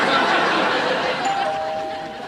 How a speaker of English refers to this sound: What kind of killer rings the doorbell?